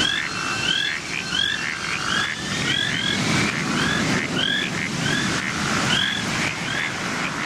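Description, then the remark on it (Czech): A dense chorus of frogs croaking, with many overlapping chirpy calls repeating steadily over a constant wash of background noise and no voices. “Njima je eto najlepša pesma Kreketanje žaba.”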